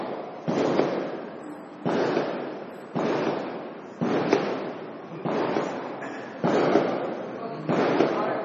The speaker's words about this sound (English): The firecrackers, that's all right. Tell them to turn the firecrackers off.